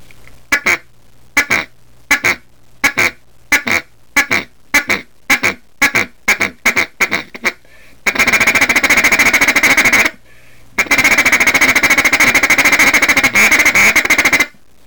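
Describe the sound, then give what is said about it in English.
A duck call blown loud to demonstrate the feed call, voiced with the word 'ticka': first a run of quick separate clucks, then two long, rapid rolling bursts of feed chatter, with no talking. “Now I'm going to demonstrate the feed call.”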